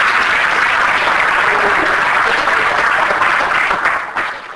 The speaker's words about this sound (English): Give God a hand clap for praise.